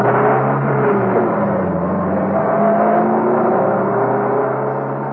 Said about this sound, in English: Another car swung out of the car park, and the occupant waved to the guard.